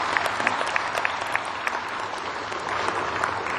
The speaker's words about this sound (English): Congratulations. Give the students a round of applause.